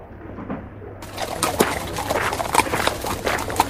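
Hooves of a small donkey clip-clop in a steady walking rhythm, moderately loud, over a low outdoor background hum after a brief quieter start. Juha rides the donkey toward the market while his son walks alongside holding its bridle.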